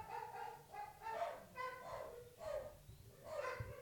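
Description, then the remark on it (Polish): Dogs barking outside the window, a steady run of short, high-pitched yelping barks repeating roughly every half second, moderately loud with no talking over them. “Czy nam się wydaje, czy tu psy szczekają?”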